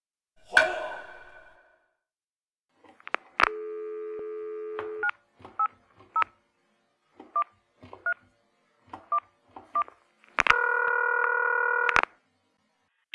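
A phone call being placed by someone from the Innovative Repair shop about a toilet repair: a brief click, a steady dial tone, a quick run of about a dozen touch-tone dialing beeps, then a longer, louder ringing tone. No one speaks.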